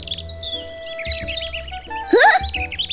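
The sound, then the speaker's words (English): Several birds chirp and tweet in quick overlapping bursts, with one bright rising call standing out near the end, over a low steady background hum. No one speaks. “Now everything is colorful again. Thank you, birds!”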